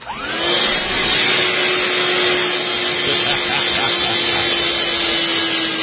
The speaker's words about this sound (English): Only on the Doug Stephan Show do you get sounds of vacuum cleaners in the morning.